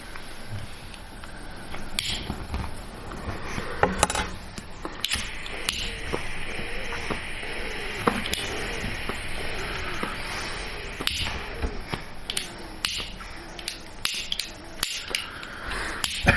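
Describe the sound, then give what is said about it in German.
A lighter, held vertically, hisses steadily with escaping gas, punctuated by repeated sharp mechanical clicks of the striker throughout, with no talking. “Du musst das vertikal halten, das Feuerzeug.”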